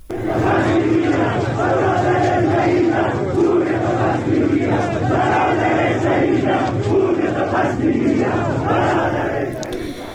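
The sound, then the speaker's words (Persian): A large crowd of protesters chants slogans in unison after Friday prayers in the streets leading to the Makki Mosque and prayer ground in Zahedan, against government repression and demanding those who shot protesters on Bloody Friday be identified. Many voices rise and fall in a steady rhythmic pattern, loud and continuous for the whole stretch. “به گزارش رسانه‌های محلی پس از نماز جمعه زاهدان، تظاهر کنندگان علیه سرکوب حکومت شعار دادند و خواستار معرفی عاملان تیراندازی به تظاهر کنندگان در جمعه خونین شدند.”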